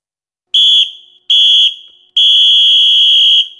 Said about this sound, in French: Bon, bah, c'est l'heure du coup de sifflet final. Il est temps de le siffler. Hein. C'est parti.